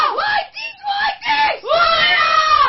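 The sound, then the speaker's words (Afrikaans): A group of young students from Laerskool Witrivier shouts a loud, rhythmic school war cry, "Whitey's Whitey!", for Clash of Schools in three forceful, strained bursts, like a rousing war cry. “Ok, nou, laastens, wil ek jylle allemaal het ons een war cry, ja. So oorlogskreet, gaan jylle het vir ons doen?”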